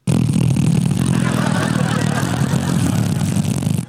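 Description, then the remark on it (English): A voice imitates a button-operated motorized cinema seat rising during a movie, holding a steady, loud, low buzzing hum with a slightly rough, engine-like rattle for nearly four seconds before cutting off. “It was one of those ones where you have a button that makes your seat go up and down. And when the seats are coming up, they go.”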